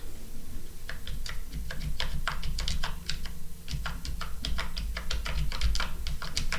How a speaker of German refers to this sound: Die Tastatur ist leise und sehr leichtgängig. Silvia, drück doch mal ein paar Tasten, damit wir das mal hören.